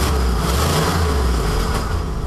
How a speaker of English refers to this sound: I always try to ask the newbies, what car was starting up there in the sound effect? Any guess? I will drop to your feet if you can name this.